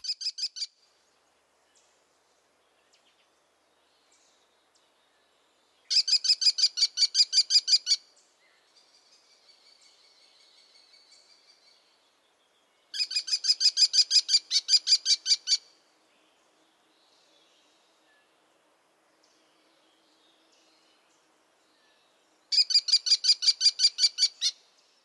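Shrill, rapid series of high-pitched notes from an American kestrel, repeated in four bursts of about two seconds each, with quiet gaps and a faint softer call between them.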